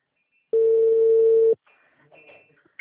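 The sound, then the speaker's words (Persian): A single loud, steady telephone tone sounds for about a second as a call cuts out because of a faulty phone, then gives way to faint, indistinct voices. “عذرخواهی میکنم من نمیتونم، گوشی من ایراد داره، عذرخواهی میکنم قطع شد.”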